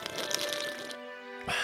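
Someone slurps morning coffee in one long, airy, hissing pull with a faint whistling tone, then pauses briefly before a short second burst of noisy slurping at the end.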